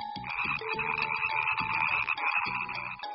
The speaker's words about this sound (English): Bingo! It is a green frog.